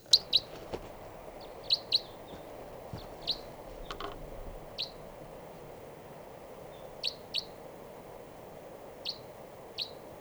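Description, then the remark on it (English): A wild type 3 crossbill across a river, recorded at 6:22 a.m., gives a series of short, sharp chip calls at irregular intervals, fairly clear, over a steady low rushing background like water. “and I thought I heard a type 3 grosbill coming around here.”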